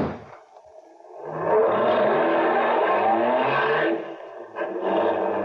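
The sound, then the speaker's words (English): A car engine revs up loudly and accelerates, its pitch climbing for a few seconds before easing off, then surging again briefly. No one speaks. “First, I didn't think I'd pushed him hard enough to get him in front of that other car.”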